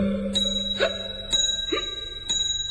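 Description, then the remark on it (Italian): A church bell tower's bell tolls in slow, even strokes about a second apart, each ring hanging and fading into the next over a low steady hum, with no voices. “Un campanile rintocca soltanto per me.”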